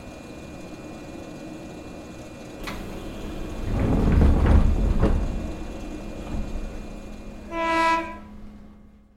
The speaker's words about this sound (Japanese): あ、ちょうど電車が到着しましたよ。はい、そのまま乗りましょう。あれ？何名か向こうの方でお客さんたちが乗ってます。この電車、一車両のみのワンマン電車ですね。